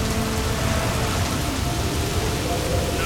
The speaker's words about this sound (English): What should we do to make the sea calm down for us? I think I know how to make it stop. Pick me up and throw me into the sea, and it will become calm. You're right. I know it's my fault that this big storm has come upon you.